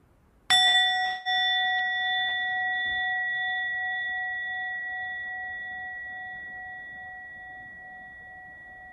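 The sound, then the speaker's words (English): A meditation bell is struck once, sending out a clear, pure ringing tone that hangs in the air and slowly fades over several seconds, with no voices present. “So for the first part of the bell practice, Just see if you can, after I ring the bell, just listen to the sound of the bell all the way through until you hear total silence.”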